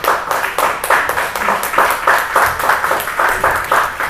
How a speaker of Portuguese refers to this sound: Amém? Você pode aplaudir o Senhor por essa palavra?